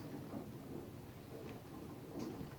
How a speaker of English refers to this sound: And a storm did come. However, the severity of it was lacking by that time. Although some close lightning strikes, some very, very heavy rain.